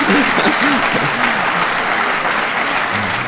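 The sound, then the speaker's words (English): An audience claps steadily for several seconds, a dense, even wash of applause at fairly constant loudness, with a few faint voices murmuring underneath at the start. “I'm starting to applause on that.”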